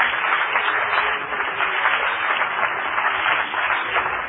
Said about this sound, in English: Somebody clap your hands to the Lord again.